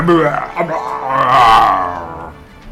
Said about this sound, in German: Der Bär brüllt.